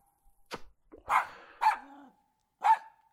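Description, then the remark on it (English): A puppy dog barks several times in short, sharp bursts, fairly loud, with brief pauses between barks and no talking. “Bad puppy dog! No! No! No!”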